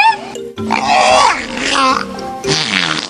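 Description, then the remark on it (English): A killer whale mimics human words such as "three" and "bye bye" with loud, squeaky and wheezy calls, a few syllable-like bursts that rise and fall in pitch, with a brief pause before the last one. “I think there's some confusion with killer whale speak when it comes to saying the word three, because that sounds like number two.”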